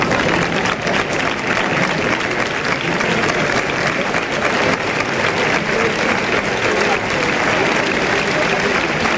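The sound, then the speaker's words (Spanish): A bullring crowd applauds steadily in an ovation for the bullfighter Alejandro after the bull is killed, a dense, even roar of clapping that holds at a constant loud level for the full nine seconds without a break. “Ovación por la entrega y por las intenciones y por las ganas que ha puesto Alejandro y todo lo que ha hecho, si lo analizamos que ha podido hacer, muchas veces con la polémica, otro matiz, ¿sí?”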